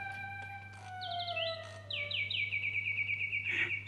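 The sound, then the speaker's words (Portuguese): A wind-up mechanical bird sings in quick, bright chirping trills, repeating rapid high notes over a steady low hum, clear, with no one talking. “Oh, é um pássaro de corda! Vejam que preciosidade!”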